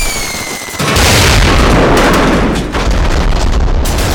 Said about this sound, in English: Hit the deck and take cover from earth-shattering, ear-splitting explosions.